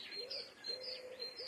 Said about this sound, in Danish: Det er ikke en mule, Simon. Jamen, det er en fugl.